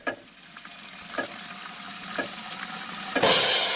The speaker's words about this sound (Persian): دست نگه دارید. بهتر است بدانیم در طول 20 ثانیه که آب باز است حدود 6 لیتر آب مصرف می شود. در طول 20 ثانیه‌ای که دست‌هایمان را به مایع دستشویی آغشته می‌کنیم، فقط زمان نیست که از دست می‌رود، بلکه آب نیز هدر می‌رود.